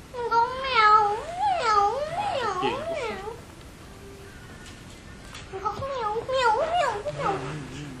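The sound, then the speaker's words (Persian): A cat trapped in a broken elevator in an apartment building meows in long, wavering, drawn-out cries, loud, in two bursts separated by a quieter pause of a couple of seconds. “تازه از صدای میو میوی گربه بود که همسایه ها فهمیدن یه گربه تو آسانسوره.”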